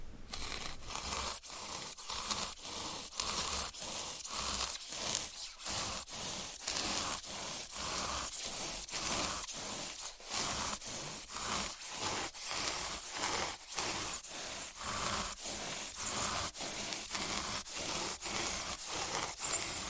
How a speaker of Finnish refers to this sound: Tässä tulee monien toivoma ääni. Styroxia sahataan tässä tavallisella lautasahalla.